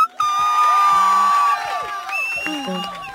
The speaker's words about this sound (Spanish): Quiero pedir un fuerte aplauso para dar la bienvenida por primera vez a este programa como artista solista,